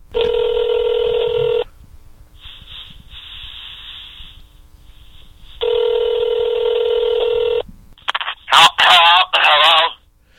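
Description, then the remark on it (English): Two long, steady telephone ring tones over a hissy phone line during a call to a rehab facility, separated by a few seconds of static, followed by a muffled voice answering on the line. “just let's give … a call”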